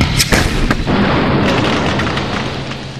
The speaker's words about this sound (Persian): قبل از این که RPG رو شلیک کنیم، تانک به ما شلیک کرد.